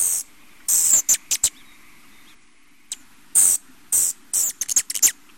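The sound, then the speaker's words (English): Sharp, high-pitched territorial hummingbird chips and buzzy chatters burst out in quick irregular clusters, some short and some drawn out, over a faint steady background hum with no talking. “And amazingly, these small birds are very territorial, and you can hear it when you hear the sound.”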